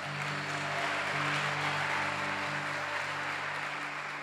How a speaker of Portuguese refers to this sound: Você pode dar uma salva de palmas a Jesus por isso também?